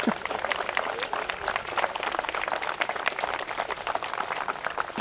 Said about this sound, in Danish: Og så må vi klappe igen.